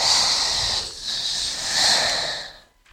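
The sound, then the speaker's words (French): A person imitates a snake with a long, steady hiss in two breathy pushes, fairly loud, then trailing off into quiet near the end. “On va vous parler du serpent. Il siffle.”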